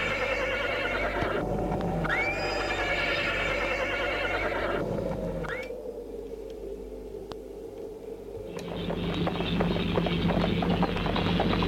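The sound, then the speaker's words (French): Hooves clip-clop steadily under a continuous rolling rumble as a horse pulls a cabriolet, with a second horse tied behind it, and a couple of sharp whinnies cutting through near the start. “Le cheval de Luc est attaché derrière le cabriolet.”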